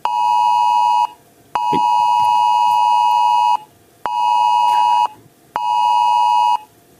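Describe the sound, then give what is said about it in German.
A loud, harsh earthquake warning alert on a phone in Japan blares in four long, steady electronic tones separated by short pauses, with no voices. “Japan ist es gang und gäbe, dass man immer wieder in der Region, wo man ist, Warnungen vor Erdbeben beispielsweise bekommt”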